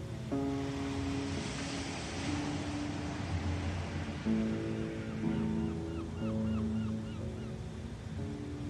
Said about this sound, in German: Du spielst mit den Wellen und lässt das kühle Meereswasser über deine Zehen schwappen. Dann setzt du dich ein Stückchen weiter weg in den weichen Sand, lauschst dem Meeresrauschen und blickst übers Meer.